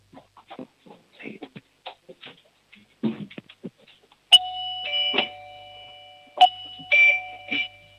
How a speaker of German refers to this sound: Eine tolle Türklingel